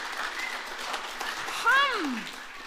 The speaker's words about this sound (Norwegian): Jesus! Woo! Klapp for Jesus da! Woo!